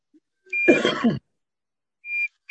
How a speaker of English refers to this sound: Can you please mute this beep?